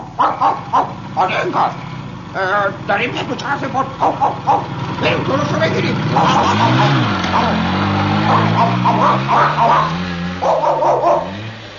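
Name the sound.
motorcycle approaching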